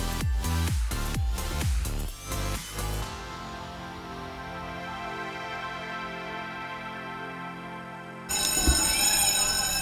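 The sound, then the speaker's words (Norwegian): A school bell rings students in to class at a school in Gamla stan, the old town of Stockholm, Sweden, steadily for several seconds, loud and sustained, preceded by a burst of rapid knocking sounds and followed by a brief noisy clatter. “Skolan som vi hör att det ringer in till ligger mitt i Gamla stan i Sveriges huvudstad Stockholm.”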